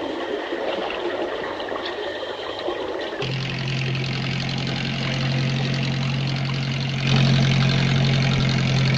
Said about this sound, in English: A small boat heads across the water.